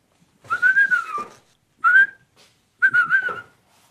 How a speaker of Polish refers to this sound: Ja uciekam. Pan tu będzie gwizdał. Zapewne.